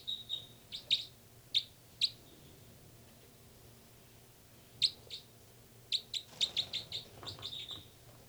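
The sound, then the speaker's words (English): High, sharp calls of two birds, numbered 305 and 306, in short bursts: a few scattered chirps early, a pause, then a rapid cluster of repeated piercing notes toward the end, over a low steady hum. “Both birds there.”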